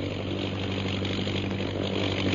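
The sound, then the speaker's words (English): A steady, droning engine hum with a low throbbing pitch holds at an even loudness throughout, from a propeller-driven fighting plane with a mounted gun circling overhead, with no voices. “Listen. The plane. It's coming back.”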